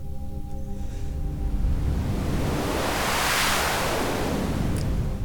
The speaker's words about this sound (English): Because I've got noise. Where's my noise? There it is. Still kind of in that wave configuration.